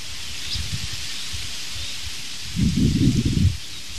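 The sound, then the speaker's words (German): Aspen leaves rustle steadily in the wind with a soft, waterfall-like hiss, swelling into a louder, fuller gust near the end before easing off. “Beenden wir doch diesen kurzen zweiten Teil dieses morgendlichen Podcastes mit dem schönen nach Wasserfall klingenden Blätterrauschen der Espen.”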